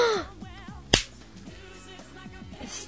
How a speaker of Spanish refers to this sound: ¡Estúpido! Me diste una bofetada.